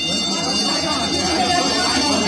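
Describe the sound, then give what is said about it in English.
A loud, continuous clanging of a change bell, its metallic ringing sustained and harsh throughout, insistent with no pauses. “They stood there trembling, listening in panic to the clangor of the change bell, not daring to wonder what it meant, but aware that something different had happened.”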